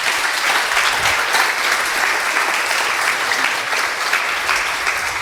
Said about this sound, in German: Erstmal bitte einen Applaus.